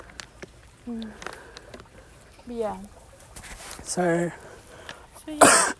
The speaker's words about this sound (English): And you've already got a cough. That doesn't seem to be going away.